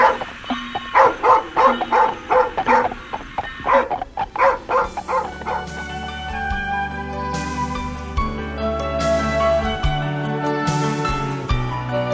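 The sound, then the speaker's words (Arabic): A dog barks in a quick series of sharp yaps over the first few seconds, then fades as a sustained musical backdrop with steady tones takes over. “ماذا تريد أيها الكلب؟ أتريد أن أتبعك؟”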